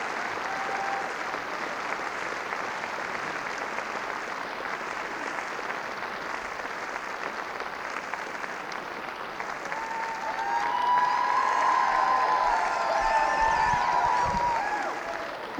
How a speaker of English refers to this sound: Give him another round of applause there.